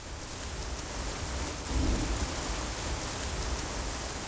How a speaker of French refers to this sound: Ce ne sont pas les gaz lacrymogènes que vous entendez, c'est la pluie sur Nantes.